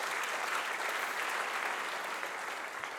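Steady applause from an audience, a dense crackle of many hands clapping at an even, moderate level throughout without any voices over it.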